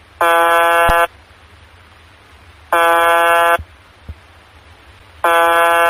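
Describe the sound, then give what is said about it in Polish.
Three harsh, loud buzzes from the UVB-76 shortwave radio station broadcasting from Povarovo, Russia, each lasting just under a second and repeating at a steady interval of a few seconds, over a constant faint hiss of radio static. “Jest to stacja UVB-76, nadająca z miejscowości Poworowo w Rosji.”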